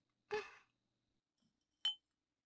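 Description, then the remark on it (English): Two bright glass clinks ring out, like glasses touching in a toast: the first rings briefly, and a sharper second tap follows about a second and a half later. No voices. “Very well, drink slave. Your actions are commendable. Keep this up and you might be due for an early pardon. Cheers.”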